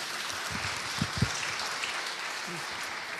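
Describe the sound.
Applause from an audience: a steady wash of many hands clapping, moderately loud and continuous throughout, with a few faint low voices murmuring underneath.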